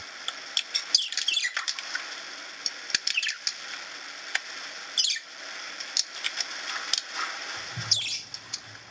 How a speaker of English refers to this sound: Like this, a parakeet having a grand day.